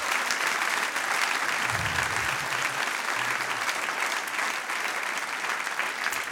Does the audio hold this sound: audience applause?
yes